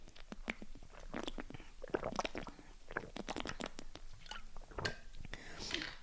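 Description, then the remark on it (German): Someone takes a sip of water, with faint wet mouth clicks, gulps and swallowing noises scattered over several seconds, mixed with soft breaths and no clear speech. “Ich muss erstmal einen Schluck Wasser trinken, sorry.”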